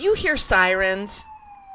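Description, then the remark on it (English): An emergency siren in Brooklyn, New York, wails faintly beneath a person talking, its steady, slowly falling tone lingering on its own after the voice stops. “If you ever hear sirens in the background, just know it's Brooklyn, okay?”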